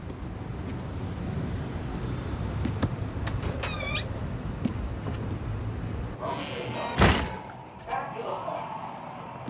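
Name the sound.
wooden door opening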